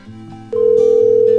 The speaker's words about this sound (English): Now the phone's just ringing over and over. I think their cordless phone base unit is still rebooting or something.